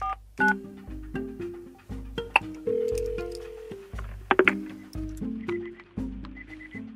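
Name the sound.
telephone keypad dialing tones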